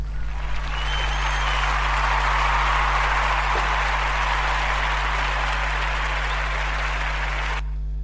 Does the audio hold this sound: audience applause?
yes